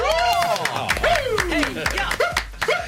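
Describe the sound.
A few people clap in a quick, uneven burst of applause, close and fairly loud, while voices whoop and call out over the clapping for about three seconds.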